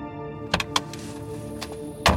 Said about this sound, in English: Kang opens the door to his rental car and steps out into the humid evening air.